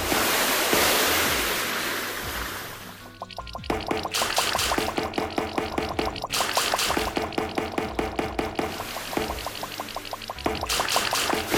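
A gushing, sloshing splash of murky sewage water plays loudly as a side-scroller game sound effect for about three seconds, then gives way to bouncy, rhythmic game music with steady beats.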